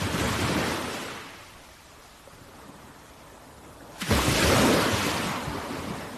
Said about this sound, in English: So, for the rest of the ad, let's listen to soothing sounds of breaking waves.